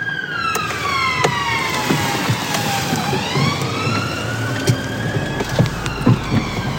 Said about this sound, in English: I feel like this is the proper police car park with all the service vehicles and sirens.